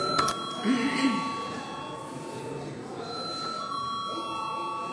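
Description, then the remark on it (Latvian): A parliamentary bell rings steadily and continuously at moderate volume before a vote on a bill in its second reading, a sustained electronic tone while faint voices murmur in the background. “Paldies, lūdzu zvanu.”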